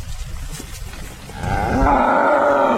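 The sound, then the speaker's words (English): A cow in a field enclosed by an electric wire lets out a long, loud moo from right next to the listener, its deep harmonic call swelling after a second of low rustling and outdoor background noise, with no talking over it. “Well, we've just crawled under the electrical wire around the field, and now we are running with the cows. We're standing right next to this cow right here, who's very, very warm and pampered and sweet.”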